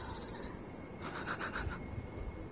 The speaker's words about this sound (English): Outdoors. Hear that? The birds. Nature.